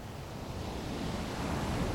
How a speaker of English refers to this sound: You notice the sound of the sea washing over the sand and the pebbles.